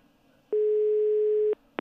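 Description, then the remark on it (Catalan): A telephone ringing tone while calling a person's personal phone: one steady electronic beep lasting about a second, followed by the start of a second short tone, clear with no one speaking. “És el seu telèfon, no? Sí, al principi és el seu personal. Si el respon, clar.”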